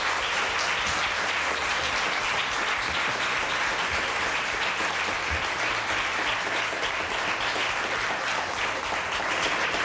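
People in a radio studio applaud steadily to congratulate the host on his 200 programmes, a dense and sustained burst of clapping that stays loud and even for about ten seconds with no talking over it.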